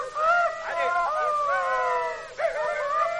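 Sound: rooster crowing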